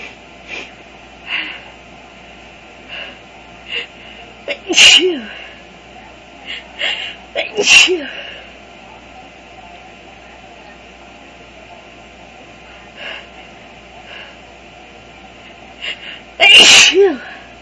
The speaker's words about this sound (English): Oh my gosh, I can't believe how much they're making me sneeze.